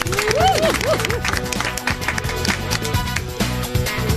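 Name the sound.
audience applause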